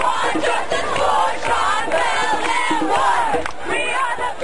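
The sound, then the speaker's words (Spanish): A large crowd of protesters against a court verdict chants the slogan 'Todos somos Sim Bell' (We are all Sim Bell) in unison, many voices shouting together in a loud, steady, rhythmic cadence that rises and falls without pause. “Este sábado, gritando la consigna «Todos somos Sim Bell», afroamericanos, latinos, blancos y personas de todos los grupos étnicos criticaron el veredicto y exigieron justicia.”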